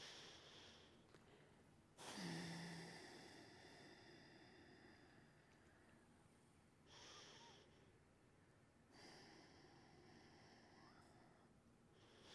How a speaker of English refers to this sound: So everybody try that right now. Do 5 seconds of inhale and then 10 seconds of exhale.